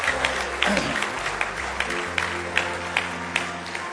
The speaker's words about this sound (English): Give Him a good hand clap of praise this morning.